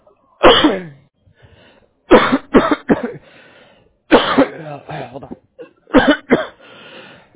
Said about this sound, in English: I'm sorry, hold on, I'm having a coughing fit. Hold on. hold on, this is really bad.